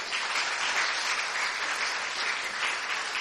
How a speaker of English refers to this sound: Give a big hand clap. Yeah? So I once again give a big hand clap to the worship team.